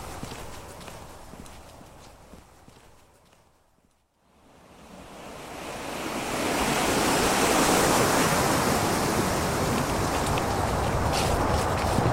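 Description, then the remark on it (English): A fast-flowing river, about 15 metres across and quite high, rushes in a steady, broad roar, dipping almost to quiet for a moment before surging back louder, then holding a constant churning wash with no voices. “The river has widened on the right.”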